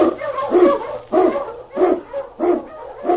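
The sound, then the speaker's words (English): Several husky sled dogs bark repeatedly in rhythmic bursts, the pack yapping and howling excitedly over a faint low hum, loud with no talking, in the radio drama The Challenge of the Yukon. “Unchained on you Huskies!”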